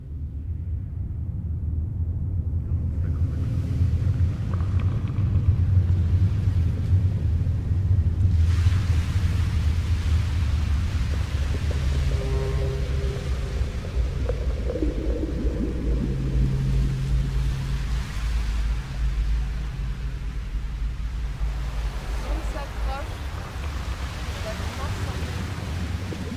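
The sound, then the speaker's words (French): Sea waves wash and roar steadily at a North Sea jetty, mixed with strong gusty wind rumbling against the microphone, with a low droning hum surfacing partway through. “Il y a cette jetée de la mer du Nord.”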